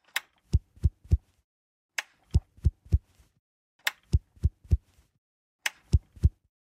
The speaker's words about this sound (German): Wir hören jetzt eine Stoffgiraffe, Farbe grün, und den Luftbefeuchter Sweet Dreams der Firma Wick.